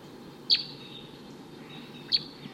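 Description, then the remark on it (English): Two short, high tooping calls from a wild male bird perched at the top of a tall eucalyptus tree, spaced about a second and a half apart, stand out clearly over a steady low background hiss. “It's been about 5 minutes since those wild birds showed up, and there's a wild male here still tooping up in the top of a tree, occasionally giving flight calls, and doesn't want to come down.”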